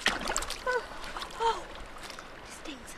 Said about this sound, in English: Some crazy people, like my kids, jump in the ice-cold, leg-numbing Sierra snowmelt.